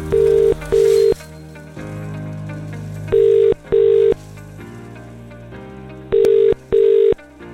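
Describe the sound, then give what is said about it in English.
A phone line ringing out: three double-burst ring tones, evenly spaced about three seconds apart, loud and clear over a soft, steady music bed, with no one answering. “£1,000 in cash could be coming home to you. If this is your phone ringing.”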